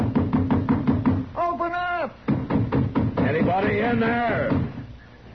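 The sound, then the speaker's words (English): A rapid series of firm, loud knocks on a wooden door, followed by a voice calling out; a few more knocks sound before the voice speaks again. “There's no need for any more noise at my door.”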